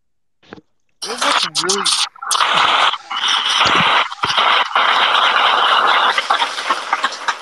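white noise

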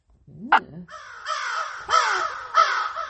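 crow cawing

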